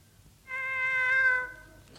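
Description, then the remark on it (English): A single drawn-out yowl from cats caterwauling outside, loud and steady for about a second before trailing off, with a faint low rumble of background noise and no talking. Sound effect in a recording of the radio comedy The Clitheroe Kid. “Not again. Oh, don't some cats' mothers have them?”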